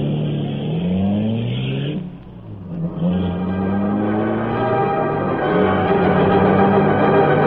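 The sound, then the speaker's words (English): The engine of the Black Beauty, the Green Hornet's streamlined car, revs loudly, its pitch climbing in smooth sweeps, dips briefly after two seconds, then roars up again and holds a steady, throaty drone with no voices. “There, Cato was waiting at the wheel of the Black Beauty, fabulous streamlined car of the Green Hornet.”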